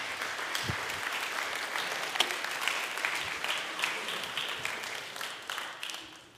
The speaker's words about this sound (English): All right, let's give them a round of applause for helping me out today.